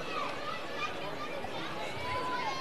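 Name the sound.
baseball stadium crowd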